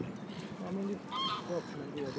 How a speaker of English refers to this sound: All these birds are very noisy today, aren't they?